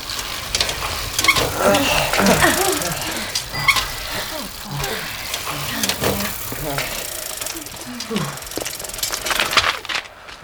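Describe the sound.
Children's bicycles squeak to a stop in front of a boathouse, with high brake squeals and ratcheting, clicking mechanical noise over a steady rough hiss, fading out at the end. Some voices seem to murmur underneath.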